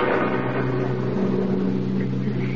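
A steady, droning bus engine idles with a low, continuous hum and a constant level, with no voices over it.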